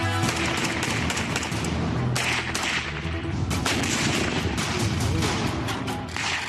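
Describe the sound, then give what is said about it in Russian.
Dense, sustained gunfire from various types of weapons during Ukrainian infantry training in assaulting and defending positions, rapid bursts and overlapping shots crackling continuously with loud, sharp reports and no pauses. “Штурм и оборона позиций, обходные маневры, стрельба из разных видов оружия.”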